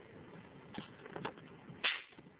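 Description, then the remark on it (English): A cheap, simple homemade snake whip, made from hardware-store materials, cracks once with a loud, sharp snap, preceded by a couple of softer swishing snaps as it is swung, with no talking. “But it does give you a satisfying crack.”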